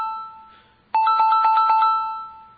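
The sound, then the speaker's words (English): A phone ringtone plays: a bright electronic melody of rapid, evenly pulsing high notes that bursts in loudly after a fading tone and then gradually softens. No one speaks. “Can someone remix this ringtone into something?”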